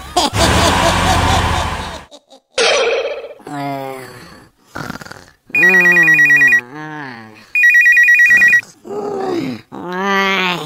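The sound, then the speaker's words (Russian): A telephone rings loudly in two trilling bursts with a short pause between, surrounded by groaning, burp-like vocal noises and bits of voice. “Телефон, проклятие человечества!”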